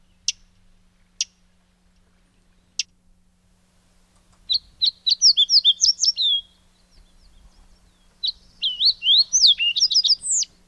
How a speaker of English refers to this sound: All right, you're also likely to hear some fox sparrows. Let's give a listen to the fox sparrow.